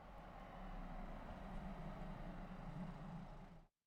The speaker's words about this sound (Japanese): あれ、あの車、ルカの方に向かってくるけど、タクシーじゃないよね。